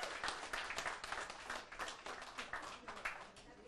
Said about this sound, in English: Happy anniversary to you guys. Round of applause, 34 years.